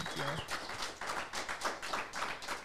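A round of applause: steady, fairly loud clapping with a quick, even rhythm that continues for a few seconds, with a brief tonal sound at the very start.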